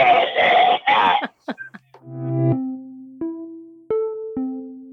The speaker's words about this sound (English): It's amazing. You cough like you're about to... Like one of your lungs is coming out. It's amazing how fast people social distance from you.